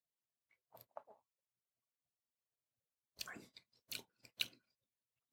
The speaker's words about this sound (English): But because of that, I'm going to have to take another sip to really.